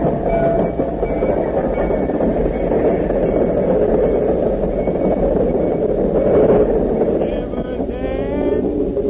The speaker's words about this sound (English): There's the train now.